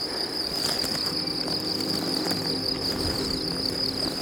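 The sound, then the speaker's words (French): A steady, high-pitched drone of chirping crickets fills the centre of an alpine meadow, continuous and unbroken, with a soft low rumble of outdoor air beneath and no voices. “Voici au centre de la prairie alpine.”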